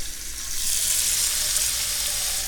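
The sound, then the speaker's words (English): A steady, airy hiss of water heating on a stove, even throughout, with a low hum underneath and no voices. “Now, is the water starting to get hot? The water is starting to get hot.”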